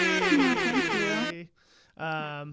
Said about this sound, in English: Sorry, I had to give you some air horn.